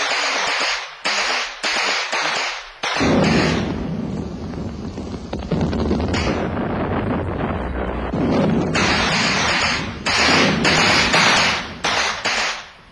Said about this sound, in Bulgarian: Картечници, огън!